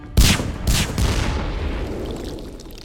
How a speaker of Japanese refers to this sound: その瞬間、ガラスの破片とともに複数の閃光弾が投げ込まれた。